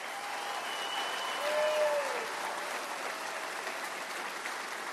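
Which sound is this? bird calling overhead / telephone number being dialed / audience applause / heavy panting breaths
audience applause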